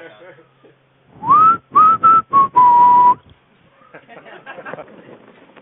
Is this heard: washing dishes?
no